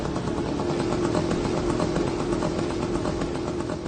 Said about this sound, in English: But instead of the German Stuka siren in this modern battlefield, you'll be hearing a moped sound buzzing in the air, which would be soaring through the sky.